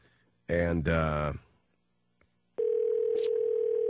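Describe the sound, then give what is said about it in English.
After a short burst of voice and a pause, a phone's outgoing ring tone starts while calling a home: one loud, steady, unbroken pitch heard through the handset. “They're doing, it's just ringing and ringing and ringing.”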